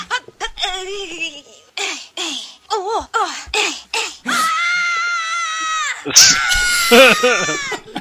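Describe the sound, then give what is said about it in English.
A man lets out a run of short, shrill yelps, then a long sustained wail, ending in loud, raw screaming, with no speech around it. “And we'll end on that one, because he's screaming.”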